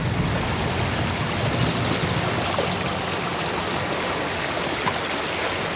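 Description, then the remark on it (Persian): A heavy rainstorm pours down in a steady, dense roar of hiss and patter that stays loud and unbroken throughout, with no voices. “اگه دستشو باز بذاریم عجوزه از این طوفان برای تضعیف ما استفاده میکنه.”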